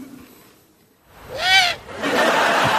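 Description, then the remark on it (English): An owl hoots once: a single loud, high, arching call that rises and falls over about half a second. A steady hiss of broad noise follows it. “Do you like owls?”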